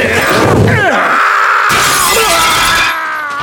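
A loud crash of window glass shattering as a deputy is thrown through a window, followed by a bright, ringing cascade of breaking shards tinkling and scattering for a few seconds, dominant with no talking.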